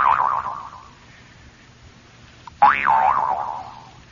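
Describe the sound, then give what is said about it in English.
Two springy, wobbling boings from a Hogan twanger toy being tuned up, each starting with a sharp attack and a warbling pitch that slowly decays; a brief click sits just before the second, louder one. “I got to tune my Hogan twanger up there.”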